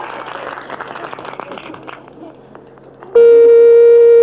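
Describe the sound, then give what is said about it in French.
A telephone rings on a call placed to a number in Indre-et-Loire, with a loud, steady, buzzy electronic tone that cuts in abruptly and holds, after a few seconds of soft murmuring background noise. “Alors, encore une sonnerie.”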